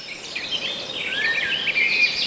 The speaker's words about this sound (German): Oh, das klingt nach einem Fest für Ornithologen. Ja, genau, genau. Ich habe nämlich Vogelgezwitscher. Wunderbar, das fand ich so schön. Da möchte man gleich rausgehen in den Wald und so.